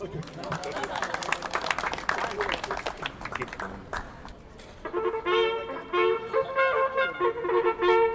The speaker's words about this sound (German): Ein Applaus.